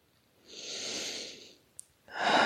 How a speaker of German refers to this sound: Okay, einmal normal atmen.